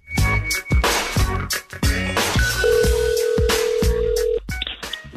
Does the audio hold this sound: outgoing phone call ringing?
yes